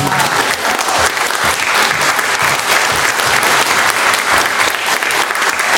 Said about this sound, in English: It's really sad to see a child of 9 years who left Syria to actually sit here and talk about her experiences. It's really, really, really hard. Because I know what she must have gone through, and we really need to applaud her for that.